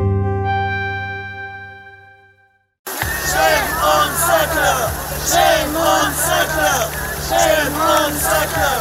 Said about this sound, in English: Honte sur vous, les Sackler. Voilà ce qu'elle criait, cette vingtaine de militants, dans la cour du musée du Louvre à Paris au début de l'été.